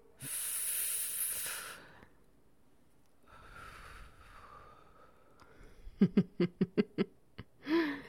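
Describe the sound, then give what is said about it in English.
A long, breathy exhale of cigarette smoke hisses, a softer breath follows, then a burst of five or six quick, sharp coughs and one last hoarse cough from having the smoke blown in the face. “Having it blown in your face makes you cough a bit.”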